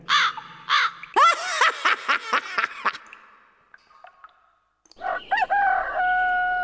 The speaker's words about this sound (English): There is only room for one bird here. Is that not so, my beautiful black raven?